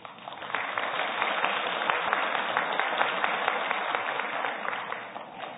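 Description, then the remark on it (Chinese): A church audience applauds after the senior fellowship sang a hymn: a dense, steady wash of many hands clapping that holds at an even level for several seconds before easing slightly at the end, with no voices over it. “我们鼓掌是鼓掌给我们天上的父。”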